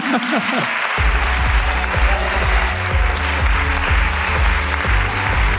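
An audience breaks into loud, sustained applause, a dense wash of clapping that holds steady for several seconds, with a few low whoops and voices mixed underneath.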